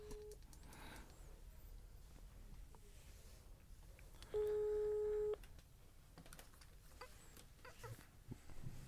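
A single steady telephone ringback tone of an outgoing call sounds for about a second, a clear, loud electronic hum over faint background rustling and clicks, with no one talking.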